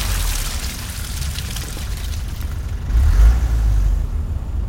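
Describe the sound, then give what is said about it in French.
A car engine rumbles steadily with low road noise as two gang members leave a red-brick house in the car, growing louder near the end as it accelerates, then holding at that level. No one speaks. “2 membres du gang sortent de la maison en briques rouges et quittent les lieux dans une voiture.”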